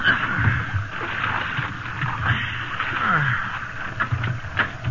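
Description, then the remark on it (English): Water sloshes and splashes steadily inside a small boat at sea as it is bailed out, with scooping splashes and gurgles over a constant rushing wash of waves, in wind. “Bail here, cook.”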